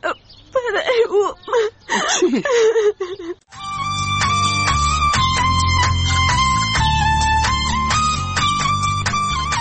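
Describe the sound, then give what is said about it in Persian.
A girl cries and whimpers in wavering, broken sobs for a few seconds, then stops as steady instrumental music begins and carries on to the end. “دخترم، تو خو گریه میکنی، چی گپ است؟”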